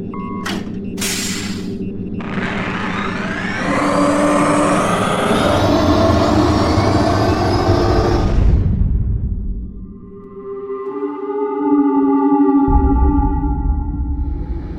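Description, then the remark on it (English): Ionic turbine engines power up to full thrust after electric hydropropulsion is shut down: a loud, steady rumble with rising whines that climb and thicken, then briefly dip before settling into a deep droning hum with high tones. “Activate the ionic turbine engines. Full thrust.”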